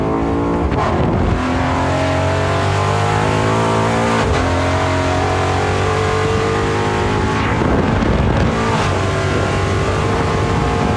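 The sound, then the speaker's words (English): A car's exhaust roars loudly as the engine accelerates off-road through the desert, its pitch climbing through several rising sweeps between gear changes, with no talking over it. “Listen to that exhaust.”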